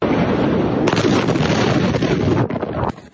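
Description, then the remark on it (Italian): A massive explosion of 2,750 tonnes of ammonium nitrate in a warehouse at the port of Beirut roars through a distorted recording as a thick, continuous rumble, with a harder surge about a second in, before the sound cuts off abruptly near the end. “La prima esplosione è come una bomba. Poco dopo arriva la seconda, ancora più forte.”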